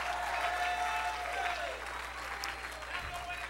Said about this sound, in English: My God, clap your hands. Make some noise. Stir up something.